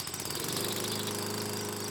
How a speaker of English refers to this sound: This lever lowers the cutting blade. You turn on the ignition to start the tractor.